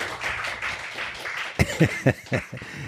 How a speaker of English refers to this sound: You don't need to applaud that.